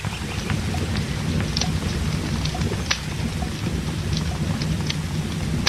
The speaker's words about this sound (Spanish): Pucha, che, sigue lloviendo.